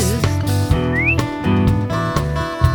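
A short rising whistle glides upward once, bright but brief, over a dense band playing steady rhythmic music with punchy drum hits.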